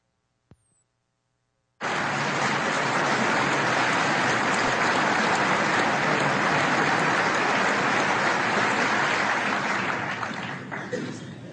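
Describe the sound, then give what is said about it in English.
After a short silence, loud, dense audience applause bursts in and holds steady for about ten seconds, a continuous roar of many clapping hands that begins to thin slightly at the end. “Let's go ahead and hear the rest of the applause.”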